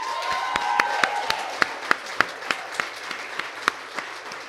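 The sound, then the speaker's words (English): An audience at a poetry reading applauds steadily after a poet's reading, many hands clapping together into a dense wash with a few sharp, louder claps standing out, sustained at a moderate level without any talking. “Yeah, let's have one more round of applause”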